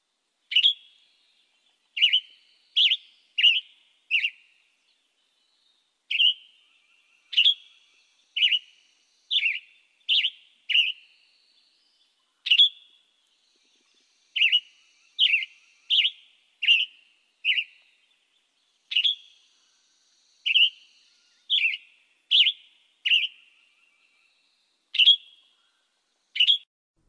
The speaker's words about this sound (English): The Western Tanager.